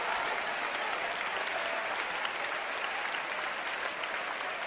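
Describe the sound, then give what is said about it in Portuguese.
A crowd claps steadily for several seconds, a dense, even wash of many hands with no pauses and no voices over it. “Aplauda ele, sirva ele.”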